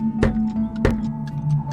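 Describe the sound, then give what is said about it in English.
A clock ticks twice, two sharp, evenly spaced clicks about half a second apart, over a steady low electrical hum. “Oh, that's a clock.”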